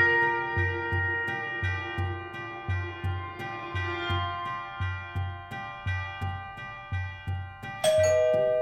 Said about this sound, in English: He's here. He rang the doorbell?